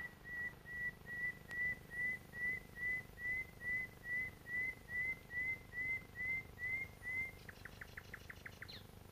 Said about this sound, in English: this bird is singing its heart out very close to me. I'm going to stop talking, because this is what the dawn chorus is about, is listening to a bird like this.